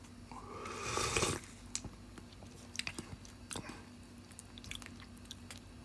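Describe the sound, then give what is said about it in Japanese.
Eating sounds of spicy curry udon, tasting the soup first: a loud, breathy slurp at the start, then soft, irregular wet chewing clicks and smacks. No one talks. “咀嚼音がしますんでご注意ください。”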